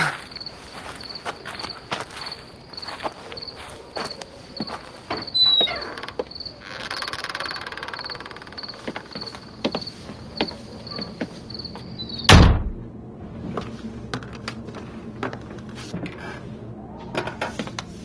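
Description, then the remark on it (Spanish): A door is opened on command by Stico after an alarm is deactivated, with a sharp, loud clunk partway through, preceded by scattered footsteps and small mechanical clicks, while a steady insect chirp continues in the background. No one speaks. “Stico, abre la puerta. Puerta abierta.”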